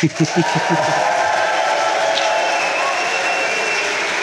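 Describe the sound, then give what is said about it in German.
A live audience at the Nuviso Sommerfest applauds steadily for about four seconds, a dense, even wash of clapping, with a few short vocal bursts at the very start. “Klappt, als wären sie bezahlt.”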